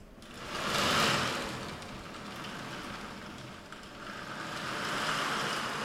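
A reconstruction of a baroque-era theatre wave machine imitates stormy surf: a loud, hissing rush of sand-like noise swells, settles into a steady wash, then surges again, with no voices.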